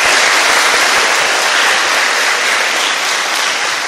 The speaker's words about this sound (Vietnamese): Cho một tràng pháo tay thật lớn.